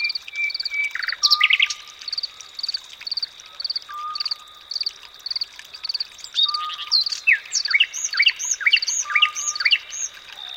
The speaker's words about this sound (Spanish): La canción de un ruiseñor destaca sobre los demás sonidos de la noche.